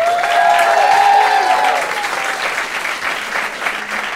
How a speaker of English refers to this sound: Those of you who think so, clap. Those of you who disagree with the asshole clapping to your left, make some noise.